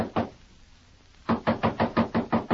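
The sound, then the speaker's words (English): Knuckles rap on a wooden door: two quick knocks, a brief pause, then a steady run of about eight firm, fairly loud knocks, with no voices. “Go on, knock. When you get tired knocking, walk into some lead.”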